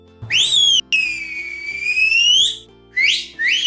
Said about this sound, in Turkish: Sincap ıslık çalınca diğer arkadaşları da gelmiş.